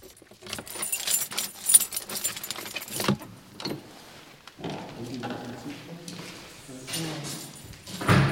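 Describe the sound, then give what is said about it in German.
A bunch of keys jangles in bursts of metallic clinks, followed by clicks of a lock and the door of a converted storehouse building being pushed open, with faint room noise around it. “Jetzt müssen wir mal reingehen in den Speicher. Sie haben Schlüssel mit?”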